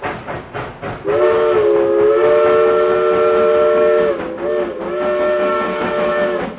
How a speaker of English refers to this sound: And here came the old train a-puffing and the smoke a-flying